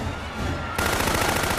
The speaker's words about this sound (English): Jill and Peyton urge the crowd back as Kane's men open fire on the defenseless crowd.